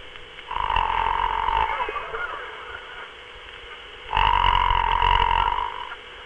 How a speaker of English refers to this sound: I need scarcely point out that the basic snore is the common or Pullman car form, sounding like this.